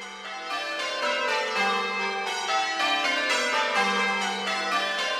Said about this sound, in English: The bells are what change ringers refer to as rounds. They start with the smallest bell and go down, so it goes da-da-da-da-da-da-da, da-da-da-da-da-da-da.